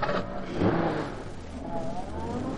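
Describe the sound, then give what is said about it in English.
A truck engine revs hard, its pitch climbing and then settling into a steady, loud roar as the truck pulls away. “Get in the truck. Yeah, you drive, Joe. Yeah. He's got a flashlight. Step on that stud and let's go.”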